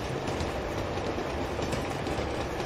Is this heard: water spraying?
no